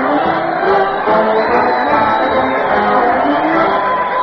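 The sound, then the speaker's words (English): A crowd cheers Fred Allen as he leads his weekly parade, with a band and the Allen Art players, to the old Town Hall: a dense, steady roar of many voices, loud and unbroken for about four seconds, with a few higher shouts rising out of the mass. “Listen to the crowd cheer Fred Allen as he leads his weekly parade to the old Town Hall.”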